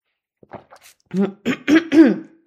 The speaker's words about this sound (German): So, hoffe, es ist jetzt gleich besser. Ich huste nochmal.